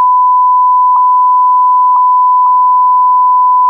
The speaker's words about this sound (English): All right. That was a very long beep, everyone. What could we have been talking about? Was it offensive things being said, or was it something we don't want you to hear?